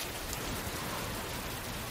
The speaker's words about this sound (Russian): Было самое начало весны. Лил дождь.